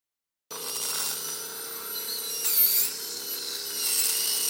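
A high-pitched dental drill whines steadily as a dentist drills a molar of an elderly female patient in the patient's living room, in the Uckermark around Templin in northeastern Brandenburg, its tone wavering slightly with a brief surge in pitch and loudness midway, over a low hum of equipment. No one speaks.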